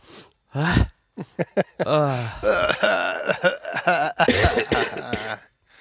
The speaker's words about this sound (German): Ach, Bröckelhusten.